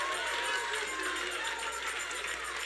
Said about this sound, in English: Now you go ahead and give him a hand clap because you need to celebrate.